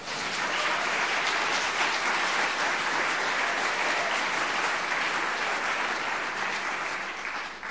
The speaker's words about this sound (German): Jetzt dürft ihr nochmal klatschen.